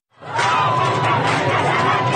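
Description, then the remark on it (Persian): A dense crowd of protesters roars and shouts together in the streets of Iran during protests after the death of Mahsa Jina Amini, a steady, loud wall of voices with no single words standing out, sustained for about two seconds after a quick swell. “خیابان‌ها را صدای فریاد اعتراض مردم پر کرده و زنان و دختران و جوانان پیشروان اعتراض‌های سراسری شدند.”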